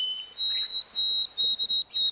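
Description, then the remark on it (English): A white-throated sparrow's simpler, shorter song with an abbreviated ending: a clear, high whistled note that steps up to a steady higher pitch, then a run of quick repeated whistles, with no voices. “This bird sings a simpler, shorter song with an abbreviated ending.”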